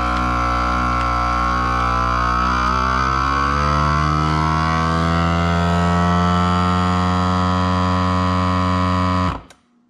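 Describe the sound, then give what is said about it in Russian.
A vacuum sealer's pump drones loudly and steadily for about nine seconds, its buzzing motor tone shifting slightly in pitch as air is drawn out of a bag, then cuts off abruptly. No one speaks. “И машинка будет из мешочка откачивать воздух.”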